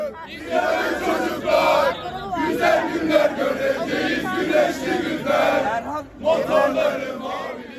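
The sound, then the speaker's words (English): A crowd of several hundred, mostly young people waving Turkish flags outside the CHP headquarters in Ankara on election night, chants hymns and the national anthem loudly in unison, many voices rising and falling together in repeated rhythmic phrases, with brief breaks between lines. “Several hundred, mostly young people, were still there, waving Turkish flags, chanting hymns and the national anthem.”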